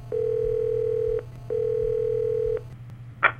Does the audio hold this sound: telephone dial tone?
yes